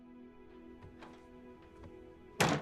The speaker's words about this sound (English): She slowly closes the door.